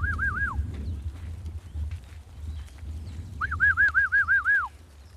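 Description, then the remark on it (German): A goatherd's warbling, trilled whistle call to gather his goats sounds in two bursts, a short one and then a longer rippling one, rising clearly over a low rumbling outdoor background with faint thuds. “Jetzt werde ich sie gleich noch zusammenpfeifen und dann geht's weiter.”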